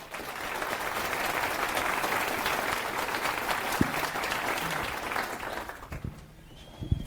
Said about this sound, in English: So please give a round of applause